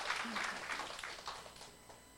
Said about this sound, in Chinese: 奉耶稣的名祷告，给这些男生鼓掌，请坐。